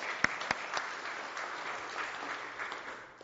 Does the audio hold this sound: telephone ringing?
no